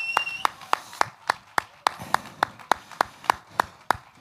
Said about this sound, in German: Applaus höre ich auch hier, gell? Danke. Danke, klasse.